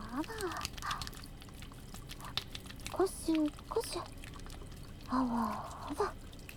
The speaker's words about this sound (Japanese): 指先丸めてくぼみを作って、逆側の手の親指使ってそのくぼみに泡を集めるようにギューってこすって泡を集めながらもっと泡立てます。こしょこしょ、